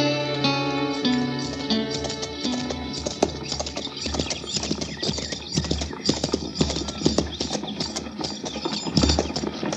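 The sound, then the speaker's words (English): A horse's hooves clip-clop in an uneven shuffling rhythm, fairly loud, as it steps around in place at a crowded hitch rack over a low background rumble, with no one speaking. “Hey, Tipple, move that horse, you're an order, so I can get mine in there.”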